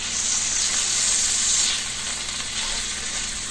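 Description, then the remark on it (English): Meat sizzles steadily in a hot pan, a dense, bright hiss of frying with faint crackling pops of splattering grease, holding an even loudness throughout with no voices. “Ouch, this is starting to splatter just a little bit.”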